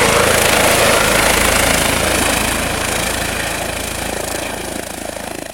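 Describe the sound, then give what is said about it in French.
A rescue helicopter flying low with its door open while searching for a victim: a loud, steady roar of engine and rotor with a rapid, choppy pulse underneath, easing off slightly toward the end, with no voices. “Et comme ils ont repéré depuis l'hélicoptère le blessé qui est là”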